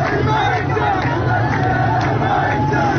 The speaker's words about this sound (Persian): تظاهرات و اعتراضات نسبت به بحران آب در خوزستان همچنان ادامه دارد. اعتراضاتی که از شامگاه پنجشنبه شدت گرفته و تا کنون به بیش از 17 شهر این استان گسترده شده. معترضانی تشنه و جان به لب آمده که به خیابان‌ها آمدند و تشنگی را فریاد می‌زنند.